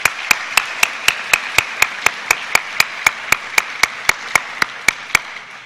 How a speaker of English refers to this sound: But I'd like to recognize her by applauding her nonetheless.